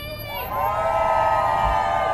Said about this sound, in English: Let's give her a round of applause, everybody. New York City!